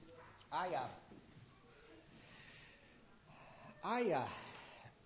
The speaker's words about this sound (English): I apologize. I got these sniffles from someplace. And so I excuse me on that one. I'll try not to be too distracting with that.